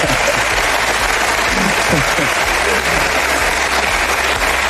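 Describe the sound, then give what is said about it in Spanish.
Teammates applaud steadily after the new captain jokingly thanks president Florentino for a bonus, a dense wash of clapping that stays loud and even for several seconds, with a few faint voices mixed in underneath. “Muy aplaudida la broma entre los compañeros, quizás no tanto entre la directiva”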